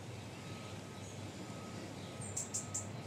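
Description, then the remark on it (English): A robin sings faintly in London, a few short high notes near the end, over a steady low hum of random machinery and city background noise. “Immediately, I'm hearing a robin.”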